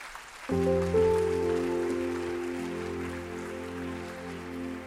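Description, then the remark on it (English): A standing church audience claps hands for the Lord in a dense, continuous patter as a sustained keyboard or organ chord begins and holds steadily underneath, loud throughout. “Stand to your feet, everybody. And clap your hands for the Lord.”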